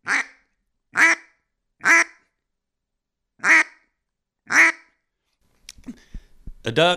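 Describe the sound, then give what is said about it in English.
Five separate single quacks blown on a duck call by saying the word 'vwit' into it, imitating a mallard hen, loud, spaced about a second apart with a longer pause midway, followed by a moment of someone talking. “And you simply make it by saying the word vwit, vwit into your duck call.”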